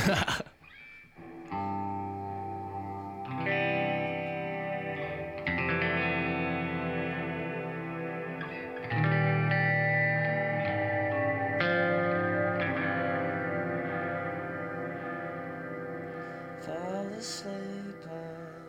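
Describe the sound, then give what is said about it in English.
An electric guitar, a Gibson imitation, being tuned up through effects: sustained, echoing notes ring out one after another, a new string struck every few seconds, thick with distortion and shimmering reverb. “I'll just do a little tune up of this guitar.”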